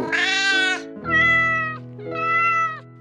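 Three long, shrill cat meows in a row, each loud and drawn out with a slight pause between them, over a faint steady low hum.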